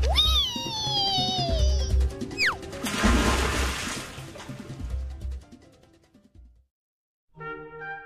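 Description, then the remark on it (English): Wavering whistles and a quick swooping slide down a water slide on a cruise ship lead into a big splash of water that fades into dripping, followed after a brief pause by a short bright musical tone. “Water slide, water slide. Go for it, ….”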